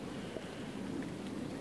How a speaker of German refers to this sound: Es regnet tatsächlich. Da hatte ich jetzt nicht mit gerechnet. Ist das echter Regen oder?